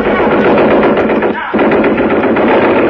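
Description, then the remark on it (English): A Thompson submachine gun firing blanks rattles off loud, rapid automatic fire in a dense, harsh burst, breaks off for a split second midway, then keeps hammering steadily to the end. “A guy with a white mask on his face came in carrying a Thompson submachine gun.”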